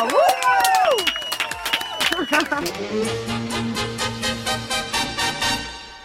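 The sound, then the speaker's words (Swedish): A short burst of clapping and whooping voices in the studio of the radio show Energy Morgon fills the first couple of seconds, then fades as an upbeat music track with a steady bass line takes over. “Ja, du får en applåd till.”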